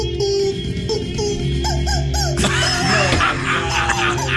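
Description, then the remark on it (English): Rubber chickens squeak out a pitched, wavering melody, each note a short rising-and-falling honk, played over a steady backing music track with a low, sustained bass. “Let's see how he goes to the hook right here on the rubber chickens.”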